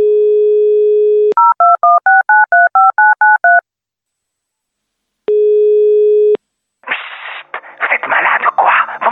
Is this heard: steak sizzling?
no